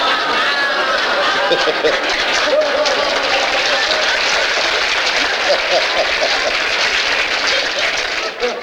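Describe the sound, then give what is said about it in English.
Sustained applause from an audience, a dense, steady crackle of many hands clapping at even loudness for several seconds, with a murmur of voices mixed underneath. “I don't know what you're applauding for.”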